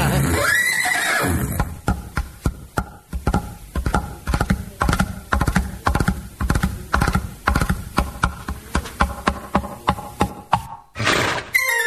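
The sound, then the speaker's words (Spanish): A horse gives a loud whinny at the start, then a rapid, steady run of sharp clopping beats follows for several seconds, ending with a short burst of noise. “Un caballo de crin blanca y una yegua muy ligera.”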